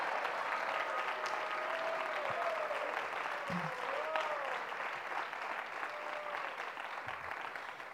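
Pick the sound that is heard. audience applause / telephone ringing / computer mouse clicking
audience applause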